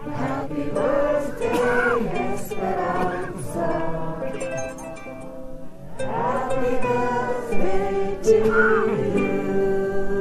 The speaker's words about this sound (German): Er bringt sogar das eingemummelte Publikum dazu, der Mama Esperanza in Mexiko ein kleines Geburtstagsständchen zu singen.